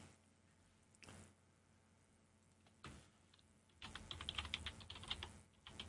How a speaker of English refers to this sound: Yeah, that's me typing. Got to get connected to the group.